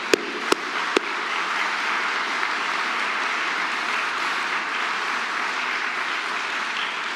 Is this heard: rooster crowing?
no